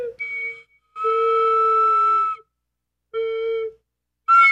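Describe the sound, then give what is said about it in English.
A whistle blown too hard gives several loud, shrill blasts, with a short chirp first, a long held note, a shorter one after a pause, and a final sharp burst. No talking. “You can put the microphone up by the whistle hole, and it's also by your mouth.”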